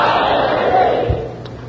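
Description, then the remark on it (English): An audience applauds a speaker being introduced, a steady, dense patter of clapping that holds for a moment and then begins to thin and fade out. “I don't want too much applause.”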